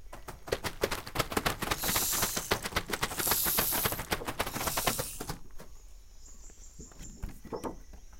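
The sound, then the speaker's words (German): Snakes hiss in several loud, breathy bursts over a fast, dry rattling clatter, then the hissing stops and a quieter stretch follows with a thin, high whistle-like tone. “Doch dann sind plötzlich unheimliche Geräusche zu hören. Ah, Schlangen, schnell weg hier.”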